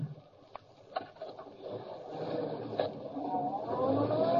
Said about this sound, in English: That's our man, Kato. He's getting into car at curb.